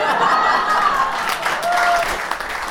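An audience applauds in a steady, dense wash of clapping that holds at an even loudness, with faint crowd voices and a brief high whistle-like tone mixed in.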